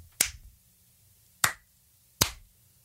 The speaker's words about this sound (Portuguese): Palmas, vamos lá.